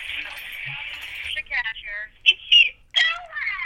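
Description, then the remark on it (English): A telephone rings with a bright electronic tone: a sustained buzzing ring, then several short warbling, chirpy bursts, fairly loud. “This fucking music fucking ringing things.”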